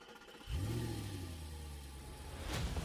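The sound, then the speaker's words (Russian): A car engine turns over and catches, then revs up with a rising and falling growl that holds steady, swelling again near the end, as the car pulls away and speeds along a forest road. “Машина тронулась и понеслась по лесной дороге.”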